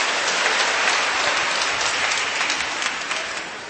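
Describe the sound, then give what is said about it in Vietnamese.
A crowd at a community gathering applauds steadily to welcome young people coming up to share, dense clapping filling the space at a fairly loud, even level before easing off slightly at the end. “Rồi chúng ta cho một tràng pháo tay hoan hô mấy bạn ra lên.”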